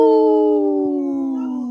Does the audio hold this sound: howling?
yes